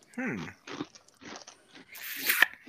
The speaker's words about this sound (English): Are you eating Cheetos? How do you know? Because it's loud as shit. It's the crunch, man.